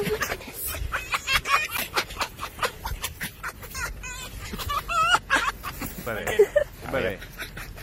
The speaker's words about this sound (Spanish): Ahí está, pues esto, no tengo ni idea lo que es. Esto es un zorro rojo. ¿Un zorro? Un zorro.